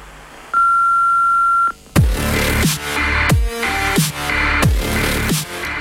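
The answering machine of the Črna luknja counter-information network beeps once as a steady, clear tone lasting about a second, then loud rhythmic music with heavy drums starts right after it.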